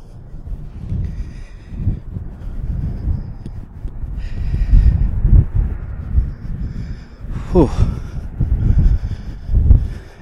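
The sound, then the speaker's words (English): Gusty wind buffets the microphone in low, rumbling bursts that rise and fall for the whole stretch, with a few faint breathy sounds, in cold, windy weather outdoors in Lawrence, Kansas. “Fuck, it's cold. And windy.”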